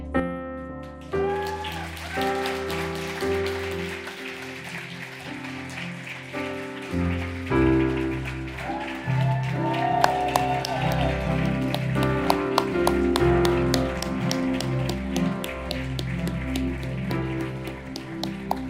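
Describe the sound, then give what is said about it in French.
A crowd claps steadily at a church baptism service in a dense, crackling wash that lasts throughout, rising in intensity partway through, with musical tones and a low bass line playing underneath. “Applaudissez encore!”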